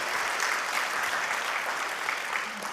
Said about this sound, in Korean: 우리 잠깐 뒤에 있는데, 예. 좀 박수를 좀 따뜻하게 맞이해 주시면 감사하겠습니다.